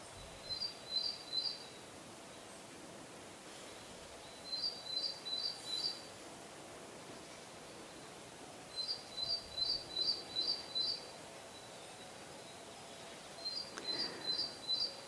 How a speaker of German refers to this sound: Vielleicht nimmst du Vögel wahr oder andere Geräusche im Wald.